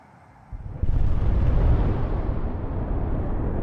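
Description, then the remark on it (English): A deep, muffled boom erupts out of near silence and swells into a heavy, sustained rumble that rolls on without fading, like a far-off explosion echoing across open ground, heard at night in the coal mining town of Mezhdorachensk. “A moment after Captain Kudrinsky said, "Everything's fine," the residents of the coal mining town of Mezhdorachensk were woken by the sound of a distant explosion.”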